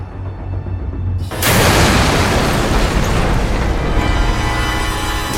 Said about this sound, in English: Before he even opens the door, the bomb detonates. Hammered by the full force of the explosion, the The officer is thrown to the sidewalk.